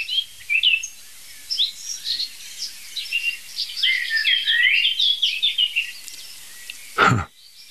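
A blackcap and a blackbird sing together in a steady stream of bright, quick warbling phrases mixed with lower, fluting notes. A short, sharp knock cuts in near the end.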